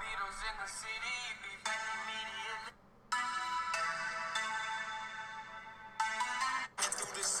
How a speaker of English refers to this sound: Oh, my timer.